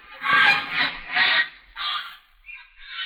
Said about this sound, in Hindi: वो देखे राजा साहब, चिड़िया उड़ रही है।